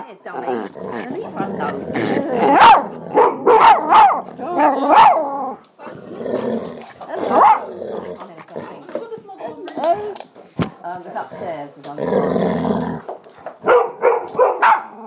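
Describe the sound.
Several dogs bark and growl in loud, overlapping bursts, sharp yelps mixed with lower rumbling growls, while people talk over the commotion.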